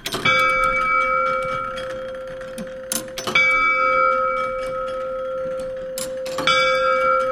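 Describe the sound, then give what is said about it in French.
An old clock mechanism, now kept in a museum, strikes its bell three times, about three seconds apart, each loud ringing stroke hanging in the air with a long sustained tone and no voices. “C'est pour ça que je ne mettais pas le micro directement sur la cloche.”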